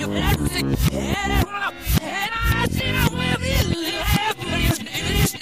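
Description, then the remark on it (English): An 80s pop song played backwards, loud and dense, with warbling reversed vocal lines and percussive hits that swell up and cut off abruptly, continuous throughout. “Okay, that's your clip to this weekend's 80s backwards track, an 80s song backwards.”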